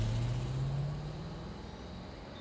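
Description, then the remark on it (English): A car engine revs up with a rising hum as the car speeds up and pulls away at night; the rumble loudens briefly, then fades steadily. No voices. “The car speeds up into the night.”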